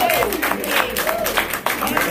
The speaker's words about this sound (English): Let's give the Lord a hand clap for that word. We needed that.